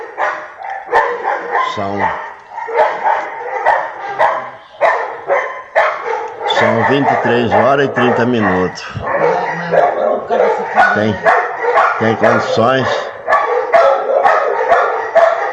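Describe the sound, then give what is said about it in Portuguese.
Several dogs bark and yip continuously at night in a chaotic chorus, some loud, others quieter, while a person speaks briefly over the din. “Será que tem condições de uma família dormir durante a madrugada com essa orquestra, por ser aberto, ó, orquestra de cães na cabeça?”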